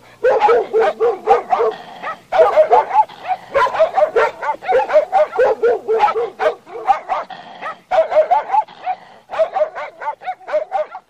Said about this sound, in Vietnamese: Một đàn chó dữ như đàn hùm ở đâu nhất tề sổ ra, chúng nhảy chồm lên tận mặt người lạ.